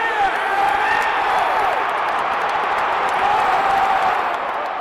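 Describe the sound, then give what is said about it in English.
A large stadium crowd at a Cowboys football game, near kickoff, roars in a steady, dense wash of cheering and chatter, with a few voices rising above the continuous din throughout. “With kickoff approaching, the kids and sheriff head into the stadium, where together they sit and cheer on the Cowboys.”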